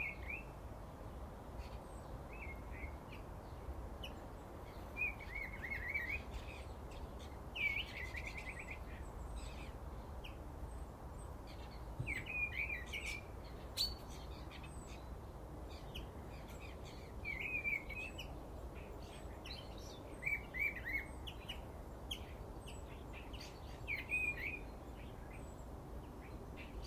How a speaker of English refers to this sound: Now, it's either a thrush or a field fare. I haven't seen field fares for years. I think it's a thrush. Well, don't stop singing now.